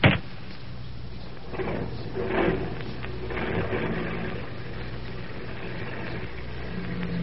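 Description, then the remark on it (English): A car driven by Denny pulls up with a steady, low engine rumble that settles into an idle, after a brief sharp knock at the very start. No one speaks. “Here comes Denny with my car now.”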